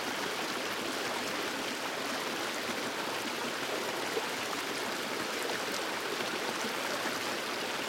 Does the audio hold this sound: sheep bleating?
no